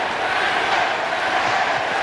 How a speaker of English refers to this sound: Joe Adell tries to steal second base. The initial call is that he's out. They send it to replay. Carlos Torres is the replay umpire back in New York. Give a listen. Crowd is chanting safe.